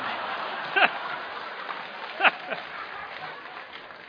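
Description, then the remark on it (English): A crowd applauds steadily with a dense, hissy patter of clapping, broken by two short whoops of cheering rising above it. “You've got a marvelous cheer group here, haven't you?”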